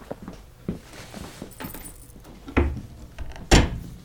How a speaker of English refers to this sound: Oh no, the door! Shit!